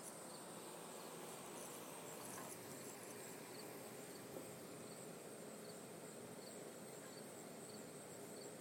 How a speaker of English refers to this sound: Here's the cricket. I can't track the higher sound, but there's a higher sounding insect. Kind of sounds like a slow cricket to me.